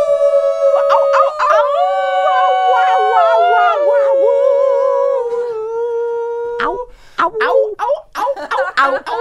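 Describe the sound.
A group of people howl together for the last time of the year, for Christmas, in long, wavering, siren-like notes, loud, before breaking into shorter, scattered yips and whoops toward the end.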